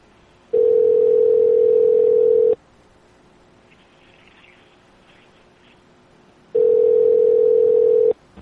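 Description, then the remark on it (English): A steady electronic ringback tone sounds twice, each burst about two seconds long with a pause of several seconds between, the pattern of a phone ringing on the other end of a call. “Let's go to the next one, see if they pick up.”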